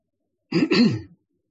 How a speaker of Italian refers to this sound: Oppure lo facciamo nella zona anteriore addominale, durante l'inspirazione espandendo l'addome, durante l'espirazione rilasciando la pelle. Inspiro, riempio questa zona, lombare, espiro.